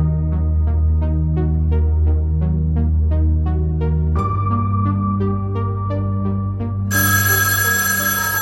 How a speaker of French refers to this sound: Le téléphone de Miss Marple sonna tandis qu'elle s'habillait. Ce qui, vu l'heure inhabituelle, la mit quelque peu en émoi.